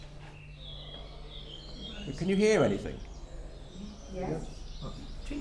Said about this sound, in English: Yes. You could hear some birds. And a gentleman by the name of Chris Watson went out into the park on dawn, and he actually recorded the bird sounds that he could hear there.